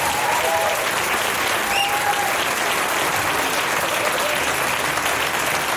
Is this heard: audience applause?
yes